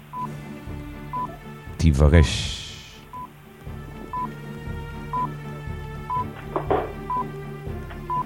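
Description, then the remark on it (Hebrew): A countdown clock ticks steadily, one short high tick about every second, timing a search for a word in the Torah portion Vayigash in a studio in Bnei Brak, running under a man's voice that speaks briefly over it. “יאללה, שעון מתקתק.”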